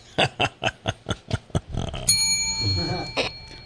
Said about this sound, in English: you're a little lax with your bell today. Yeah, where is mine? I don't even know where my bell is. Oh, there it is.